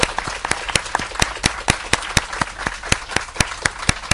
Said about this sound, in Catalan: Amb aquests aplaudiments també anem assajant el que segur que farem demà, no?, quan vingui el Sant Pare a la plaça de Sant Pere